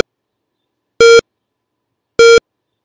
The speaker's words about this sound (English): That was a time bomb. It explodes after its timer reaches zero. You must be well away from it in order for it to not kill you or cause you serious injury.